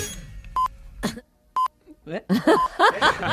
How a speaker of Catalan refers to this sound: Ara escoltareu els senyals horaris de les 8 del matí, però un fals senyal horari s'ha colat. Què dius? Sereu capaços de donar-vos-en?